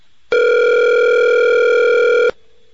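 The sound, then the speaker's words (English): A phone line rings on an outgoing call: one loud, steady electronic ringback tone lasting about two seconds, starting and stopping abruptly, with no voices. “I think he disconnected his phone already.”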